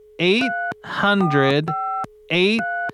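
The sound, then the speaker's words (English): A phone number from a TV commercial being dialed: short, steady keypad tones beep in quick succession, interleaved with a voice making humming, wordless sounds over a faint constant tone. “All right, just gonna dial that number.”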